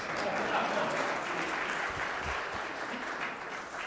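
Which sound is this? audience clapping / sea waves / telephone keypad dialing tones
audience clapping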